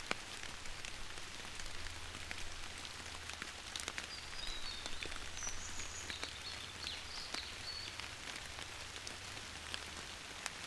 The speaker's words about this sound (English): Are you in the woods? Are you in a forest? You hear nothing but the rain and the birds.